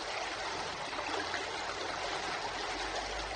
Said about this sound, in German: Und da ist die Legebach, zum Teil ist auch gemauert, ja. Auch da wurde geflößt, ja.